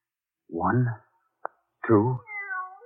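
A live cat meows twice, with a brief sharp click between the calls. The second meow is longer and trails off into a drawn-out, wavering whine.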